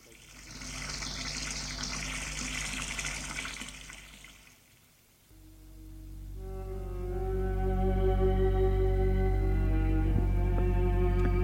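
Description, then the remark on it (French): A shower runs with a steady hiss of spraying water, briefly dies down, then surges back louder with a hollow, resonant ringing tone that holds strong to the end. “Quelquefois, ils prennent une douche.”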